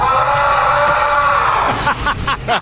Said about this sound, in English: That's Julio Rodriguez's primal scream in the background of another interview in the Seattle clubhouse.